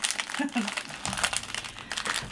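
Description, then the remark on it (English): Loud, continuous crinkling and rustling of candy being eaten right on a microphone, a dense stream of sharp crackles over about two seconds, with a brief murmur of voice early on. “Okay, you gotta stop eating the candy on the microphone. It makes it really loud.”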